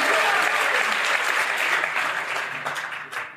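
A burst of dense applause, many hands clapping steadily and loudly, fading a little toward the end with a few scattered claps standing out.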